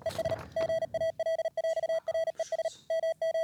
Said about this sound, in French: c'est un message en morse que j'ai fait moi-même avec un site sur internet. J'ai pris quelques paroles d'une chanson que j'aimais bien et que j'ai retransmis en morse. Et là, vous êtes en train de l'écouter à l'instant.